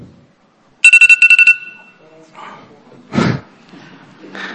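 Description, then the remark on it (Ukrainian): A telephone rings during a committee vote in a short, loud burst of rapid electronic trills lasting under a second, then cuts off as voices murmur and someone speaks. “Телефон проти.”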